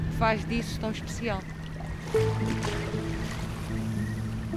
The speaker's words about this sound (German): sitzt in einem kleinen Motorboot und zeigt auf die Marschlandschaft der Ria Formosa an der portugiesischen Algarve.